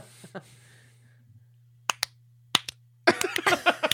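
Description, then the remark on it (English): Sharp hand claps ring out, first two spaced pairs, then a quicker, denser flurry of claps, loud over a low steady hum, with no talking. “Do the wait staff come out because I clapped?”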